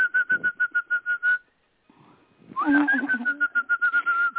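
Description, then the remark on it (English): A person whistles a rapid, steady string of bird-like chirps, pauses briefly, then resumes with a rising swoop before trilling again, clear with no talking. “Sounds just like a bird, doesn't he?”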